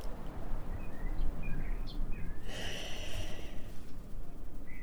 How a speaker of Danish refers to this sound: Og med lidt fuglekvider.